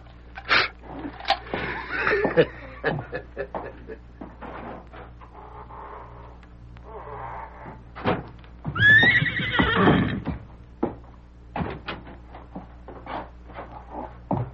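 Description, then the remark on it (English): A horse whinnies loudly, with scattered hoof thumps and clip-clops on a hard stable floor before and after, plus faint rustling. “Horses look fine.”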